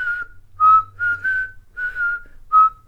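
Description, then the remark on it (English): A person whistles a short, bouncy tune of several clear notes with brief pauses between phrases, imitating the background whistling from the Ewok scenes of a digitally remastered film. No talking. “Because something that stood out for me then, I think it was when I saw it in the cinemas when it was digitally remastered when I was 11, was the background whistling in it.”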